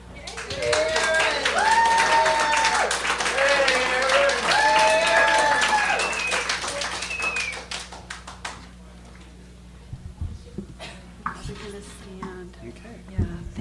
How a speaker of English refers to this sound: I love applause.